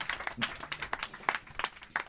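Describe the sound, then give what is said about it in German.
Sparse, irregular clapping from what sounds like a small handful of people, a short smattering of sharp, bright claps lasting a couple of seconds at moderate volume. “Das ist ein Applaus, ja?”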